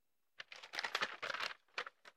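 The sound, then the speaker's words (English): Paper rustles and crinkles in a quiet burst of crackly handling, followed by two brief separate crinkles; no one speaks. “Of paper.”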